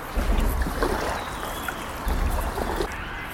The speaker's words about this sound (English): Okay, I'll just keep paddling on my own, shall I?